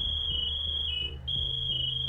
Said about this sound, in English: The first sounds to emerge from the rubble were personal alert system or PASS alarms. These devices were worn by firefighters on their air tanks and gear belts. When a firefighter didn't move for 30 seconds, the PASS device erupted with a 95 decibel